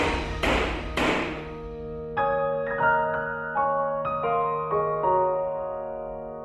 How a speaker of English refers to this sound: And he bangs his gavel.